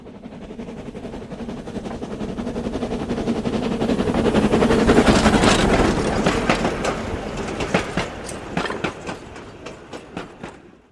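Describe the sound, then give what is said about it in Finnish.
A big train rushes past at speed, a broad roar swelling to a peak midway, then sharp rhythmic clacks of wheels over rail joints as it recedes. No voices. “Iso juna ajaa kovaa vauhtia. Se pääsee paljon lujempaa kuin Kerttu.”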